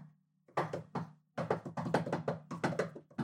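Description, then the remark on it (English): A secret knock tapped on a hard surface: two separate taps, a short pause, then a quick flurry of crisp raps in an uneven rhythm, with no voices. “Wait, I gotta give the secret knock.”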